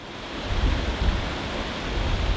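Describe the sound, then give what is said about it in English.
The James River at Lynchburg, Virginia, flows steadily without pause, a dense, even wash of rushing water with a low rumble underneath, fairly loud, with no voices. “This week, the sound of the James River at Lynchburg opens a revised repeat of a 2013 episode, a doubleheader of music and sounds to mark the annual James River Bateau Festival.”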